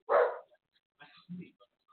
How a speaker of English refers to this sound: If anybody's listening, the dog is barking like crazy. Yeah, just give him a little, just a little nudge.